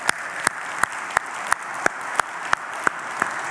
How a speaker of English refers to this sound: I know the team doesn't do this for applause, but would you join me in thanking the worship team this morning?